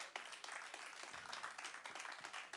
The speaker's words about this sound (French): Bon, un petit coup d'applaudissement et ça va le faire. Merci.